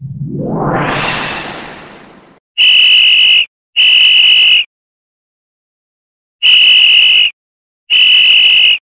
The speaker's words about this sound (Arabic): بيصفر ليه ده؟ احنا لسه نازلين طابور الفسحة.